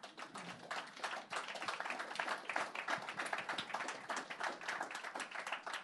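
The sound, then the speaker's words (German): An audience breaks into steady applause for a candidate in a European election campaign, many hands clapping densely and continuously for several seconds at moderate volume with no voices on top. “Applaus dafür.”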